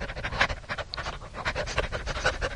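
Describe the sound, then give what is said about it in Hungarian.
A dog pants rapidly and steadily, quick breathy huffs repeating in an even rhythm throughout, with no voices. “Szemben egy kutya vacog. A lépek, ő is lép. Ugyanúgy léheg, mint én.”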